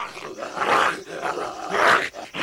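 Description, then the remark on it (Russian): A dog growls and snarls in a rough, continuous stream, swelling into two fierce peaks as it pretends to tear apart a wolf in a field, with no talking over it. “Догнал пес волка, и ну, делать вид, будто рвет его в клочья.”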